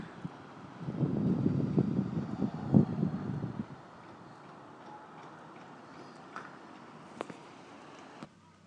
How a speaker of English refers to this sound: So I'm hoping that the microphone's picking it up, because it's quite loud here actually. But you may be getting some of the wind noise and the distant traffic and the not too distant traffic.